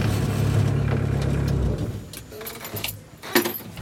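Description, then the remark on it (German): A small park train carrying passengers in its wagons runs along with a steady low engine rumble that fades after a couple of seconds, followed by light metallic clinking and rattling. “Die freuen sich einfach über die vergnügliche Bahnfahrt.”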